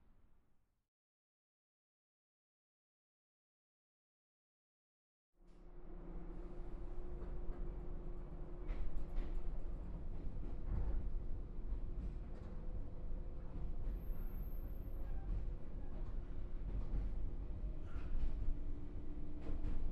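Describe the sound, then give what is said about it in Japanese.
After about five seconds of near silence, a train sets off again after waiting for another train to pass, nearing its final stop, and settles into a steady rumble with a sustained humming motor tone, continuing without pause to the end. “さてと、サンダーバードが元気にかっ飛んでいくところも拝んだし、通過待ちはこれにて終了。じゃ、そろそろまた出発するよ。”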